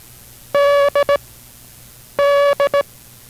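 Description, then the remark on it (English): A steady, mid-pitched International Morse Code tone, part of a broadcast Morse code lesson sending the word 'dog', beeps out one long dash followed by two quick dots. It pauses, then repeats the same dash-dot-dot pattern, the letter D, against a low hum. “We will continue instruction in the rudiments of the International Morse Code following station identification.”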